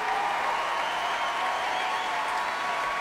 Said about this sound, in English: Those cheers and screams for Eric Whittaker back on stage and gesturing modestly to the singers before stepping forwards to take a bow.